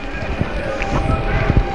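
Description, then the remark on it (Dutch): A group of riot police, just out of their buses, running in, with heavy footfalls thudding unevenly over a constant roar of outdoor crowd noise and indistinct voices. “Nou, daar komt de ME aan. Die is uit de bussen. Die begint te rennen.”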